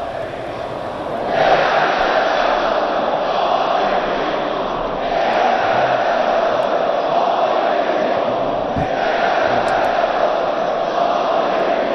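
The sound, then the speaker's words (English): A large crowd chants in unison before Ayatollah Sayyid Ali Khamenei's Eid al-Fitr sermon, loud and sustained, with rhythmic swells roughly every few seconds as the massed voices rise and fall together. “Let's listen in to the crowd chanting first.”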